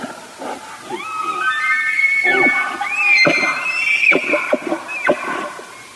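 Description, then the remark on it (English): A bull elk bugles: a long, high, whistling squeal that rises and wavers for several seconds, trailed by a few short, breathy grunts, with no voices present. “Beginning in early September and ending late in October, a bull typically gathers a harem of 10 cow elk for breeding, and then defends his entourage by bugling to intimidate his competitors.”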